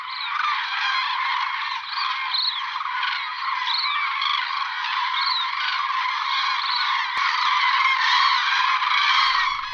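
A dense chorus of common cranes calling, with many loud, overlapping trumpeting and honking voices sustained without a break, ending with a brief low rumble.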